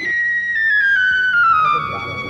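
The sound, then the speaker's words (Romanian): A whistle is blown in one long, steady note that slowly glides downward in pitch. It is loud, with a faint murmur underneath. “De ce nu cântă trompeții? Ce se aude? Un fluier, augustitate.”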